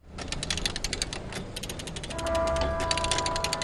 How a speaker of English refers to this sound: works a ratchet jack at the end of an old pier at NOAA's downtown port facility. A rope runs from a hook on the jack to the top of a 9-foot steel tower.